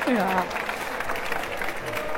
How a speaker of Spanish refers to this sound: Gracias. Gracias. Ay, un fuerte aplauso, por favor.